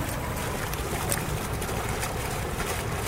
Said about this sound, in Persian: خب دوستان صدای آب رو بشنوید.